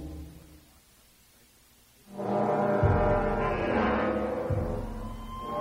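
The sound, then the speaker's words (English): A deep, loud alarm blares in after about two seconds of low rumble, a sustained horn-like tone with layered harmonics that holds steady and booming until the end, sounding through a biotics building and the temporary docking bays outside it as an assault is expected. “The alarm cut through the biotics building, the temporary docking bays built outside it, the kill zone surrounding it.”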